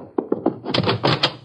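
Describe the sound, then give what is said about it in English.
A door closes with a few dull wooden thumps followed by a brief rattling clatter of the latch and frame, moderately loud, with no voices. “I heard a door close.”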